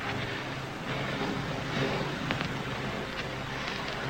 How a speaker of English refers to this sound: This is the voice of …. More wind than I expected.